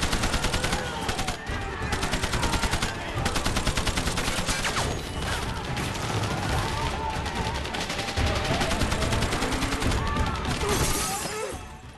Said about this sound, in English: I don't recall if there's music playing in that part of the film, but I recall the sound of the gunfire and these rockets zipping by and the trucks rushing.